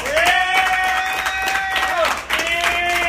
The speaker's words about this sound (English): Yeah! Yeah! All right. Let's give some round of applause for your MC